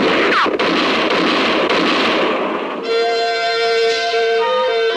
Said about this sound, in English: For about 5 seconds, the moonlit clearing thundered to the sound of gunfire. And then it was all over.